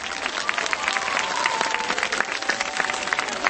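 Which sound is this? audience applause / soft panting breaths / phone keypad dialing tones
audience applause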